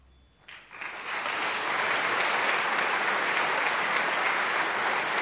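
A crowd breaks into loud, enthusiastic applause after a brief quiet moment, the dense clapping swelling within a second and holding steady and sustained to the end, with no voices heard. The applause follows a song performance at the 40th Koroška poje event.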